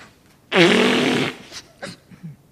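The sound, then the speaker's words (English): A single loud, honking nose blow lasting nearly a second, with a buzzy low tone under a hiss, followed by a few short, quieter sniffs and snuffles. “I just feel like blowing my nose.”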